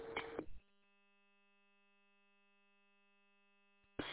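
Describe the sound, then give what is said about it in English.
A steady, buzzy radio emergency alarm tone, set off by someone accidentally hitting their alarm button, holds unbroken for about three seconds, fairly quiet, with bursts of radio static just before and after it. “sounds like somebody accidentally hit their alarm button.”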